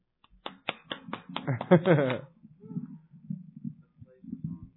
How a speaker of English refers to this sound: Wait, I'm going to give him my own clap for this.